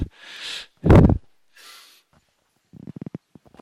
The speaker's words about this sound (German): Ich darf nicht zu wild schnaufen.